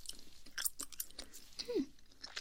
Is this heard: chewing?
yes